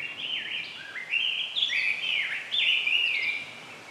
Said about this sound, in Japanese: 潮風を感じ、遠くからかすかに聞こえる波の音、鳥のさえずりに耳を傾ける。 鳥のさえずりですか？ ほれ、耳を澄ませてみそ。聞こえるだろ？